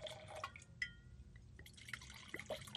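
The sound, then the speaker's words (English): Wine is poured into a glass, with quiet gurgles and bright, rising liquid tones as it fills over a few seconds. There is no talking, only faint background noise. “Pour me a splash.”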